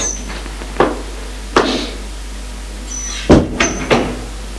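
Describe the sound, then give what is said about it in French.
A father raps a few sharp, irregularly spaced knocks on a small wooden door upstairs in a house, followed by a short cluster of hollow thuds as the door is opened and he enters. No one speaks. “Le père frappe à une petite porte et entre.”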